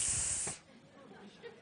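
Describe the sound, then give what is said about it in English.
A voice lets out a single loud, breathy hiss lasting about half a second, bright and noisy like escaping steam, then drops off into quiet room tone. “Hiss.”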